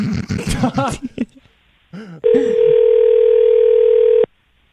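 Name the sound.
phone ringback tone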